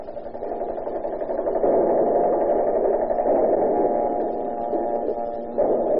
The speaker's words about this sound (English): Do you hear that? It's the air raid warning.